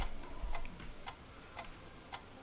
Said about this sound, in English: Now that ticking is the ticks. This game is measured in ticks, always.